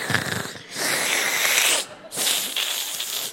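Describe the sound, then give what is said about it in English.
A voice imitates a sick young daughter's wheezing, labored breathing: a short raspy breath, then two long, loud, hissing drawn-in breaths separated by a brief pause. “She's breathing like a really long bong hit.”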